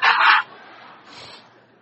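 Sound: chickens clucking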